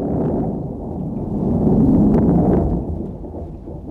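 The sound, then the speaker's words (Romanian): A deep, rolling rumble of thunder as the sky clouds over for rain builds to a peak midway and then slowly fades, heavy and low, with no voices present. “Asta e carul Sfântului Ilie. S-a înnegurat văzduhul a ploaie.”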